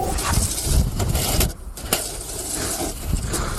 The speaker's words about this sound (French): Bah oui, le crissement des pelles sur les trottoirs pour déneiger et éviter les chutes. Ça, c'est le plan A à l'huile de coude.